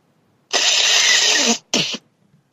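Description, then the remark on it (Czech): Someone blows their nose loudly into a microphone: one long, harsh, hissing blast of about a second, followed by a shorter second honk, with no talking around it. “začala smrkat a to se do mikrofonu docela hodně rozlíhá”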